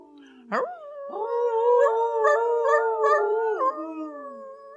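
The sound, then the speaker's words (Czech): Several wolves howl together in overlapping, wavering tones, a brief yelp-like onset followed by a sustained chorus of long howls, clear with no talking. “vlci na znamení souhlasu krátce a dlouze zavili.”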